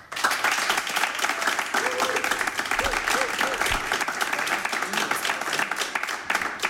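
Sustained, dense audience applause for a band playing live in Radio 1's Studio 1 fills the whole clip at a steady loud level, with a few faint cheers and a brief wavering voice tone rising above the clapping.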